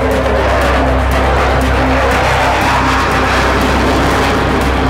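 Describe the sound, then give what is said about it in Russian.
A Su-30SM fighter jet performing a barrel roll roars loudly overhead above a small boat on Lake Baikal, a dense, continuous blast of engine noise that stays powerful throughout, with no voices. “Вот вам бочка в исполнении Су-30СМ.”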